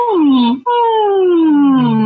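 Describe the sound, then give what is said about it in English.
A voice performs two vocal sirens as a warm-up exercise, done nice and easy on different vowels: smooth sustained glides sliding downward in pitch, a short one, a brief breath-like gap, then a longer, steady descending slide, fairly loud and unaccompanied. “A nice vocal siren, a couple of those, just nice and easy on different vowels.”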